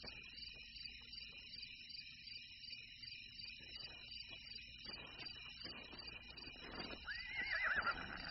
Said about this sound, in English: It's a horse, all right. What if it's some dashing black stallion running loose?